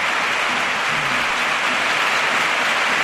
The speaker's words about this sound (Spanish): Ojo, vamos a escuchar, ovación, se marcha Luz de Jong, el capitán, creo que tenemos que escuchar la ovación, se pone la gente en pie.